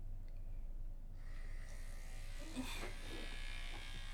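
An electric massager runs on a low setting, giving a steady, low-pitched droning buzz that continues unbroken for the whole clip, with faint rustling and soft hiss layered over it.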